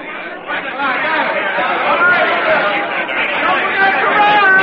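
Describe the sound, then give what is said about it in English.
A bustling crowd in New York's Pennsylvania Station on a Sunday spring morning: a steady, dense babble of many overlapping voices, with no single speaker standing out, continuous and fairly loud throughout. “It's Sunday morning, a spring morning, and in New York's Pennsylvania station, a young soldier gazes in awe at the swirling, bumping crowds that mill about him.”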